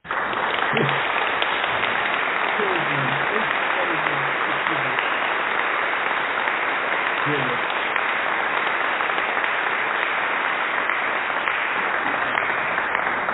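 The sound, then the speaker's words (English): Sustained, dense applause from a crowd on the English Defense League Radio Show, given to a man being praised, loud and steady for the whole stretch, with faint voices and a few shouts mixed underneath the clapping. “Let's give the guy an applause.”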